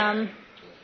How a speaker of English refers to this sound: Bless you.